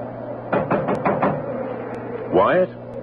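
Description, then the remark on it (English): Five firm knocks on a wooden cabin door at 3 in the morning in a quick, even series, fairly loud, followed after a short pause by a brief rising voice. “I'll knock.”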